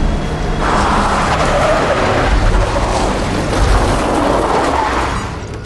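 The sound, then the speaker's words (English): A truck's engine roars as it swerves on a road, tires skidding and screeching across the pavement for several seconds, the rumbling slowly easing off as it comes to a stop. “He emerges onto a road and runs out in front of a truck. It swerves out of the way and comes to a stop.”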